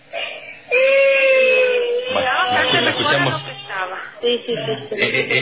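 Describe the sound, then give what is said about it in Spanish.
A young girl cries in a sustained, wavering wail that rises and falls, fairly loud, with muffled background voices mixed in underneath. “Bueno, la escuchamos. Sí. Es la que está llorando.”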